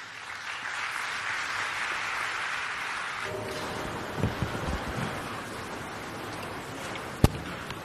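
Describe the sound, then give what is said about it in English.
An audience at a ceremony at Mangosuthu claps for His Royal Highness, a dense, steady wash of applause that holds for a few seconds and then thins into scattered, softer claps, with one sharp knock near the end. “Can we please clap hands?”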